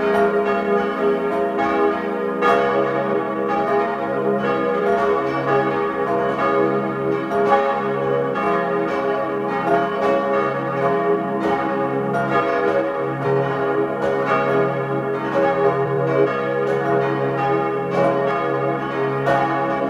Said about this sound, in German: Sie hören die Glocken der Pfarrkirche Mariä Geburt in Mieders im Tiroler Stubaital.